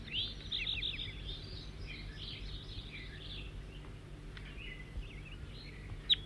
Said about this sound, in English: Four, three, and back in song, trying to get the new bird again, who's giving loud flight calls occasionally.